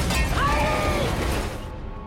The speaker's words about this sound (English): It crashes into water-filled drums.